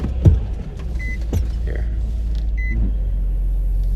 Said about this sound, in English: Sorry, I had to turn my car on. So you're going to hear, like, some engine running and everything.